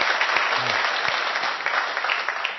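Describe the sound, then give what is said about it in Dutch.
A church audience applauds the Lord after a prayer, steadily, a dense wash of many hands clapping at an even, fairly loud level, with a faint voice briefly audible beneath it. “Dan zullen we de Heer een applaus geven.”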